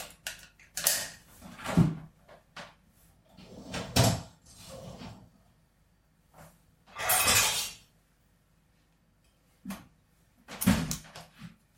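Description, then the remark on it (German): Kitchen clatter while cooking: a spatula for the frying pan is picked up amid several sharp, irregular bursts of rattling and knocking, like a drawer or cupboard being rummaged, separated by brief quiet gaps, with no talking. “Und hast du einen Pfannenwender, mit dem man in der Pfanne rummachen darf? Ja. Plaste oder Holz oder so? So? Ja. Den nehme ich mir auch dazu.”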